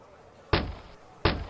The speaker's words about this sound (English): Okay, let's knock on the door.